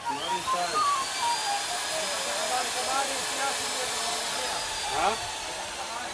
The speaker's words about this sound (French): en train de poncer le bastingage.